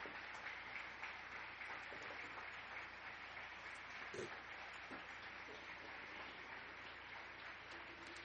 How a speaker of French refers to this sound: Mais bon, des applaudissements hein, pour le travail magnifique, mesdames, messieurs.